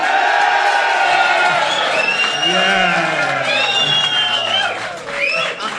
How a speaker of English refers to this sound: So, first of all, let's have a big cheer for Tyrone.